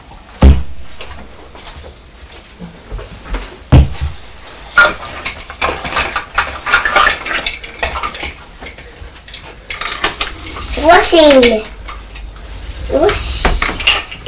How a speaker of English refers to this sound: Oops! It's noisy, isn't it, when the train landed on the table?